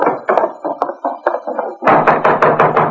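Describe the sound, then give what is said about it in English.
Knocking on a wooden door: a steady run of hollow raps, then after a brief pause a second, louder and faster series of knocks, with no voices and no answer from inside. “Don't look like she's going to answer the door.”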